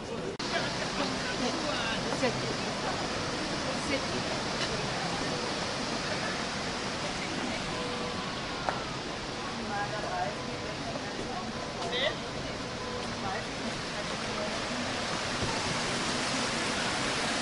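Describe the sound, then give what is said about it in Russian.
A steady roar of the rushing water of the river Regnitz at its left arm, loud and continuous throughout, a dense hiss and churn that never pauses or changes much in intensity. “Итак, мы с вами стоим на реке Регнец, это левый рукав, и это граница.”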